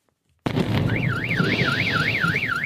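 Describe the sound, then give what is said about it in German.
A car alarm wails loudly over a dense rumbling background in Chelyabinsk, Russia, after a meteorite came down and its shock wave burst windows. The siren tone sweeps steadily up and down in a regular rhythm after a brief silence at the start. “Die Druckwelle ließ unzählige Fenster bersten, verletzte rund 1000 Menschen und überall heulten die Autosirenen.”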